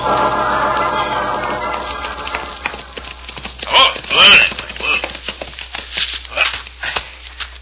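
Horses' hooves clip-clop in a steady rhythm over a music-like harmonic background, with a brief whinny-like burst in the middle.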